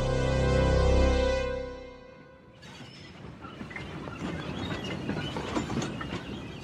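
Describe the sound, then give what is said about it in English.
A deep droning rumble gives way after a couple of seconds to a steady rattling clatter of train wagons rolling over rail tracks, continuing without pause. No voices. “By the time the TARDIS was safely tucked away in the train yard, the sun was peeping over the horizon and animals and people were beginning to stir.”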